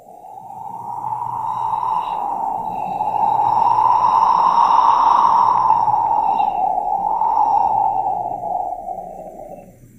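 A steady, breathy whoosh of cold, humid wind coming in off the ocean over a harbor, swelling to a peak midway, then easing off and fading, heard alone with no talking over it.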